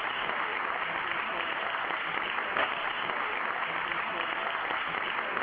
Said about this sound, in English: That's just the applause.